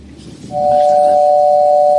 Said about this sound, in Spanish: El timbre que nos deja ahí, el timbre de Papa John's.